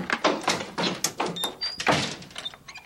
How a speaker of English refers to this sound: And as she goes to open the door, she's shocked to discover that it won't budge. And we soon hear all the doors and windows sealing from around the house.